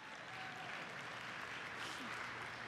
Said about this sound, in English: Now, while this is within Outlook, we made it look, yeah, go ahead, you can clap.